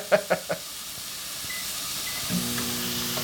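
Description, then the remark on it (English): Pork belly sizzles in a pan with no oil, salt or seasoning, with a steady, soft hiss, opening with three quick crackling pops, then settling into a continuous fry with a faint low hum toward the end. “You're just very calmly cooking this pork belly in the pan.”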